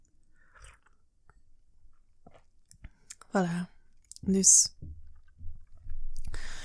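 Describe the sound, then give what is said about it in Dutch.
Soft clicks and sloshing of water being poured, then a few wet gulping and swallowing sounds of someone drinking, with a short spoken word in between. “Ik ga even een beetje water inschenken en ineens ook drinken.”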